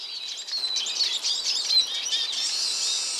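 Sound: eurasian siskin song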